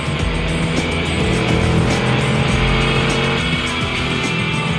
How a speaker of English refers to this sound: He accelerates and gains on the station wagon.